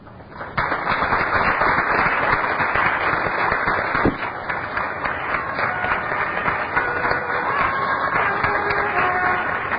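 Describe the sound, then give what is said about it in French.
A large audience breaks into loud, sustained applause for itself as Bernard de Montréal is welcomed, starting abruptly and continuing steadily as a dense wash of clapping, with a few scattered cheers mixed in. “Et au moment où il va entrer, je vous demande de vous applaudir vous-même cette fois-ci.”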